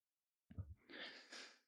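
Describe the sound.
A person breathes hard through the mouth in imitation of a dog panting: a low thump, then two quick, breathy huffs, with no talking.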